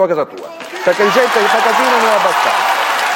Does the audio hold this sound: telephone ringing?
no